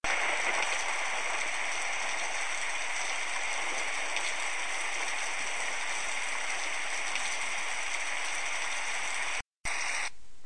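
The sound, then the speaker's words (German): Steady, dense rain hiss from a sound app's thunder-and-rain sound plays on its own at an even, fairly loud level, with no voices and no distinct thunder rolls. It cuts out briefly near the end before resuming. “So, jetzt kann man auch hier sich Donner und Regen anhören.”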